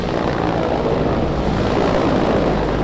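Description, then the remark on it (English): Loud, steady roar of the engines and rotors of two Mi-24 attack helicopters swooping down for an attack over hilly countryside near Drawsko Pomorskie in northern Poland during military exercises, a dense continuous drone with no break and no voices. “Above hilly countryside in northern Poland, near the town of Drawsko-Pomorskie, two helicopters swoop down for an attack.”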